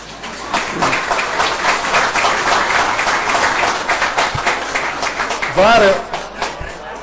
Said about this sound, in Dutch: En dan mag u klappen.